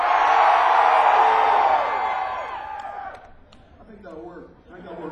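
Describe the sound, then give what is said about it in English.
A big crowd screams and whoops loudly for about three seconds when asked to scream out loud during a performance, a dense wall of high voices that fades out. A man then starts talking. “I want you to scream like your damn hair is on fire. Scream out loud!”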